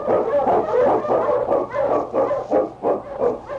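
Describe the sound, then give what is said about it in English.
Several sled huskies, led by the Wonder Dog King, bark and yip in the Yukon in an excited, overlapping chorus, loud, with rapid repeated bursts throughout and no voices. “On, King! On, your Huskies!”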